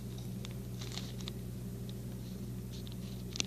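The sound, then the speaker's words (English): The smallest paper clip being slid onto two very thin sheets of paper to hold them together: soft scraping and a few small clicks and rustles, scattered over a steady low hum, with no one speaking. “I'll use this smallest one of all to put these two pieces together.”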